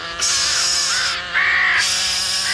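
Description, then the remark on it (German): Loud, harsh cawing from a flock of crows scolding as they circle a UFO, two long overlapping bursts of raucous calls with a brief dip between them, sounding agitated and aggressive. “Die Vögel, was machen die da? Sie haben das UFO eingekreist.”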